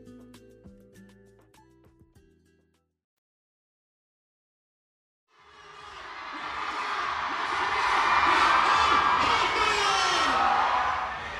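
After a brief snippet of music and a pause, a huge crowd gathered around a stage platform on an expo convention floor, waiting for a fourth-generation idol, roars: dense, loud chatter and cheering from many voices that builds and holds steady to the end.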